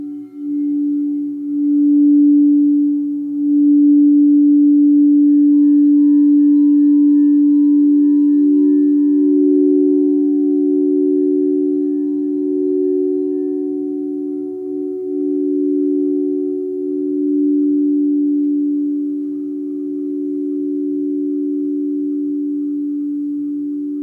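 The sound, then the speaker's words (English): A singing bowl rubbed around its rim with a silicone mallet gives a steady, sustained ringing drone with soft overtones, swelling slightly and holding loud for the whole stretch with no talk. “rub the mallet, it's like a silicone rubber mallet, around the outside of the bowl. It gives a very singing sound, so it's a very ethereal, meditative sound.”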